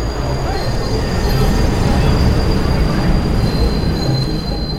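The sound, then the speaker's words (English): A Metro-North commuter train running from Bedford Hills to Grand Central Station rumbles steadily along the rails, with a loud, continuous low roar and a thin metallic squeal from the wheels running high above it throughout. “And they put me on the Metro North train from Bedford Hills to Grand Central Station.”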